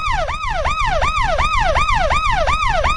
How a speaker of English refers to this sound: New game alerts. They're probably best to play the new game alert siren.